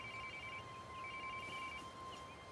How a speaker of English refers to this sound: Her radio is out of action, but they keep calling her phone. Eva hears it ring.